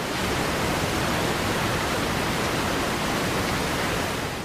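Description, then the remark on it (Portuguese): A steady, dense roar of rushing water from the Namacha waterfalls in southern Mozambique, a few kilometres from the borders with South Africa and Eswatini, fills the whole clip, constant and loud with no pauses or voices. “Apesar de toda a beleza natural que a caracteriza, as quedas de água de Namacha ainda são muito pouco exploradas”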